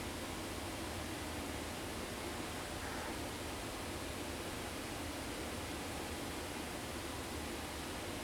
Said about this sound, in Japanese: 岩場がくり抜かれて洞窟みたいになってるから、それで滝の音も反響して聞こえてるんですね。面白い。